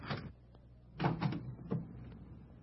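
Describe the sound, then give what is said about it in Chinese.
A door is unlatched and opened by a gatekeeper: a sharp clunk, then a quick cluster of wooden knocks and rattles about a second later, and one final thud, with no voices. “对不起啊，我马上开门啊。”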